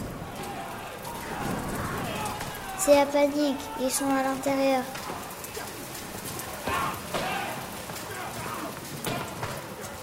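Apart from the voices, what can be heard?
heavy downpour of rain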